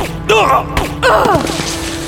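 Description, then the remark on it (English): Two or three muffled, thudding pistol shots from a gun with a sound suppressor as a man shoots two police officers in an alley behind an apartment, with strained gasping and groaning voices around them. “The sound suppressor muffled the gunshots,”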